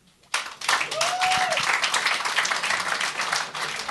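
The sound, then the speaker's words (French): A crowd bursts into sustained applause after a brief quiet moment, answering a show of applause on who would want to pay less taxes; dense clapping at steady volume, with a faint whistle or cheer rising briefly near the start. “Par applaudissement. Qui c'est qui voudrait payer, je sais pas, moins de taxes?”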